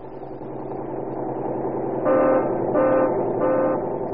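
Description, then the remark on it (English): The engine of a modern interurban bus rumbles steadily as its pneumatic tires roll along a concrete highway at railroad speed, then its horn sounds three times in short honks, loud, with no voices. “In its place is a modern interurban bus, pneumatic tires rolling along concrete highways at railroad speed.”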